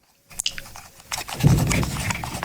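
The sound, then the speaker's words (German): The squeaking scroll wheel of a cheap, aubergine-coloured Bluetooth mouse being turned, giving a quick, uneven run of small ticking clicks with faint squeaky scraping, growing slightly louder midway. No one speaks. “Kann man das hören? Das Drehrad quietscht.”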